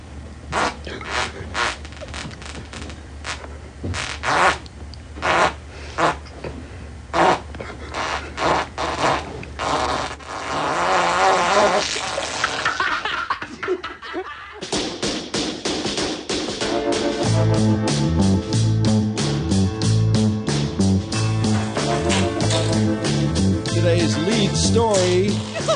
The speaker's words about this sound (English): The 30-second fart that was in Brandon's prep. Where'd you find that, Brandon? You know, I don't know. Somebody had tweeted it for a Happy Father's Day. Happy Father's Day. Here's a 30-second fart.